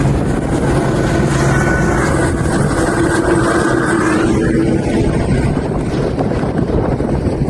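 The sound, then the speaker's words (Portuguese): A Military Police tactical air unit helicopter, mobilized for an incident at a shopping mall in the capital of Maranhão, Brazil, roars steadily, its dense rotor and engine drone filling the whole stretch with no pause, a faint whine rising and falling in pitch as it passes. “A ocorrência chegou a mobilizar viaturas da Polícia Militar e até um helicóptero do Centro Tático Aéreo.”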